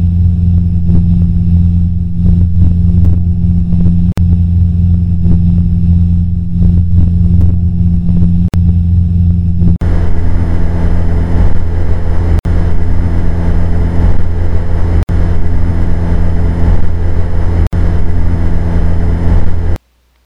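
Steady airplane cabin drone heard through aviation headsets, first a David Clark, then a Sierra: a deep, humming engine tone for about ten seconds, then an abrupt switch to a louder, hissier, broader roar that continues unbroken. No one speaks.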